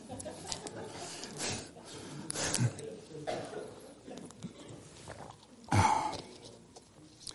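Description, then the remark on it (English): Someone drinks water: a few irregular gulps and swallows with soft mouth and throat noises, one louder burst near the end, and no words spoken. “I gotta take a drink of water.”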